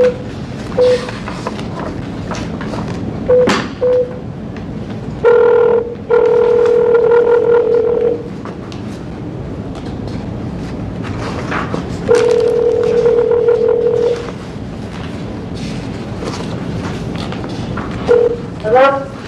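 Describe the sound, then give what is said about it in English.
A few short telephone keypad beeps as a phone call is placed during an Arizona Board of Executive Clemency hearing, then a steady ringing or dial tone in long sustained bursts with pauses between, over a faint hum and a bit of background murmur. “Chairman, they did request one phone call, so may I make the phone call, sir?”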